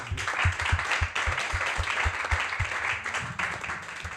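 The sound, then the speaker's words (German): An audience applauds itself on a Wednesday evening at twenty to ten, many hands clapping steadily in a dense, sustained wash of sound with a few sharper individual claps standing out, fairly loud throughout. “Deswegen ein großer Applaus und alle nochmal wach werden, bitte.”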